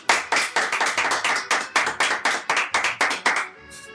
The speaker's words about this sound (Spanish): Un aplauso, por favor.